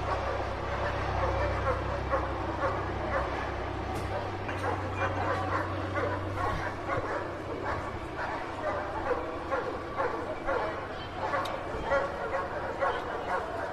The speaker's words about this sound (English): I can see in the windows police running like crazy down the street. This is unbelievable. You can hear the police dogs now.